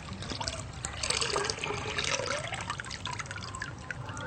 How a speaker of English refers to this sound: Looks good. Yeah. And then we pour the water out.